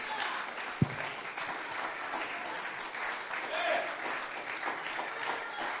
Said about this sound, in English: Come on, clap your hands like you really mean it. Put your mind into it. When you clap your hands with your mind of the Lord, you're growing.